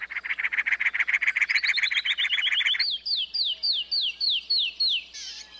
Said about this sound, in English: the clear tones of the canyon wren echo off the hard stone, carrying a long distance. With cactus and canyon wrens, there's a clear sense of how the different habitats, cactus and stone, live in their songs.